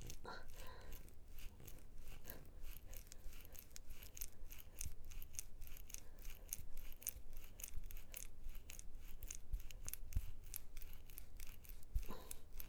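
A pink vibrator is pushed in and pulled out over and over, making faint, wet, rhythmic rubbing sounds in quick repeated strokes over a steady low hiss and rumble.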